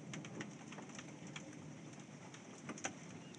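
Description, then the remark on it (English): Hail taps against window glass on a November day, the wind no longer blowing as hard, in scattered, irregular ticks over a steady hiss of background noise, with a few sharper, louder hits standing out near the end. “Yep, still hail. It's just not blowing as hard. Hitting the windows.”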